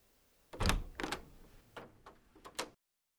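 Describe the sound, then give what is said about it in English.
An examination room door being opened by a patient in an examination gown: a heavy clunk of the handle and latch, followed by a few lighter clicks and rattles over about two seconds, with no one speaking. “She gets up, opens the examination room door, struggling to hold the ass end of her examination gown closed.”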